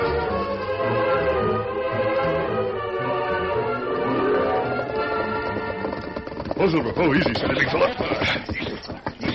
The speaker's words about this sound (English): Roy Lyman heard horses galloping in his direction from somewhere behind the bend in the road